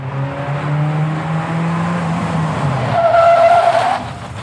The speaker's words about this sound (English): The car screeched to a halt.